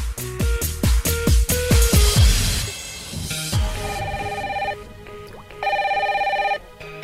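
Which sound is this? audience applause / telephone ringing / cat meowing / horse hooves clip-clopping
telephone ringing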